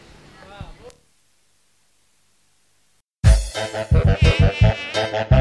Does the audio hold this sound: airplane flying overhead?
no